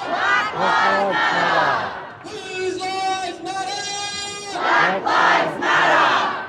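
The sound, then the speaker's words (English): A protest crowd of thousands marching through a street in Sydney over deaths in custody chants in loud, rhythmic bursts of shouting, then holds a long sustained cry for a couple of seconds before the rhythmic chant picks up again. “And they walked along chanting.”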